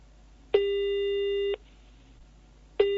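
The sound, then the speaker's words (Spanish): A telephone ringback tone on a call placed from Montevideo to Isabel Parra's home in Santiago, Chile: a steady one-second electronic tone, a pause, then the tone starting again, clear and fairly loud over a faint low hum. “En el Chile de hoy, antes del balotaje del 15, llamo por teléfono a Isabel Parra desde Montevideo a su casa en Santiago.”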